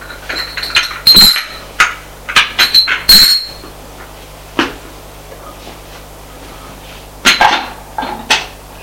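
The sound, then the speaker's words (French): A woman sets down a tray with tea and everything needed for tea on a low table, with a cluster of bright china clinks and clatters at the start, a quiet pause, then a few more ringing clinks near the end. “La femme revient avec un plateau et le thé. Tout ce qu'il faut pour le thé. Elle y dépose sur une table basse.”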